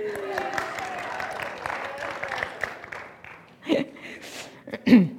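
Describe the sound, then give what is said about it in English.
An audience applauds with a dense wash of clapping for about three seconds, tapering off, followed by a couple of short vocal exclamations. “I guess he wants us to applaud how nice he looks.”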